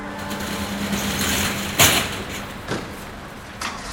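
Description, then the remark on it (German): A delivery van engine hums and rumbles steadily, then a loud sharp bang cuts in, followed by two fainter thuds, as the drivers slam the vans' metal doors shut, while traffic noise continues. “Es sind die Lieferwagen.”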